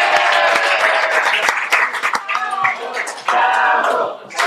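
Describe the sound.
Audience applause, loud and sustained, a dense patter of many hands clapping with voices calling and cheering mixed in throughout, dipping briefly and then swelling again before tapering at the end.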